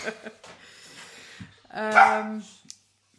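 A dog barks, a few short yips followed by one louder, drawn-out bark, then a brief final yelp before it goes quiet.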